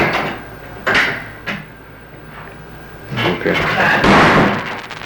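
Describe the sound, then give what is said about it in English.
A door bangs shut with a sharp thump, followed by a softer knock, then a longer stretch of scraping and rattling as it settles, with faint voices in the background. “Okay, close the door.”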